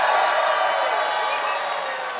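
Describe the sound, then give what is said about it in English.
An audience cheers for 'great boss, bad person', whooping together in a dense, steady roar that holds loud for about two seconds, with no single voice standing out, then eases slightly toward the end. “First, we'll do cheer for great boss, bad person.”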